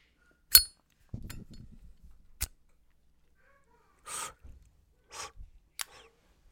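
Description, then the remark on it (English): Someone lighting a stogie (cigar) in a closet outside Columbus, Ohio: a few sharp metallic clicks, a low crackling rustle, then short breathy hissing puffs, all fairly quiet with gaps of silence and no talking. “I sit in my closet outside of Columbus, Ohio, and I always like to light up a stogie before I get going here on the show.”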